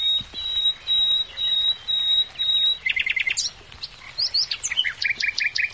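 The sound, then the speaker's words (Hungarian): A male common nightingale sings its territorial, mate-seeking song: a long, steady high whistle, then a burst of rapid repeated notes and varied trilling phrases, loud and clear with no voices. “a fülemülék. És az erdők, ligetek, parkok, gazdag ajnövényzetű kertek világában már szól a hímek területfoglaló és párkereső éneke”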